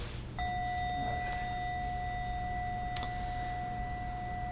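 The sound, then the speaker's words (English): A single bell, used to separate poems in a poetry reading, strikes once and rings on in a long, steady, clear tone with bright overtones, sustaining without fading over a low background hum. No one speaks. “I'm going to separate the poems by the sound of the bell.”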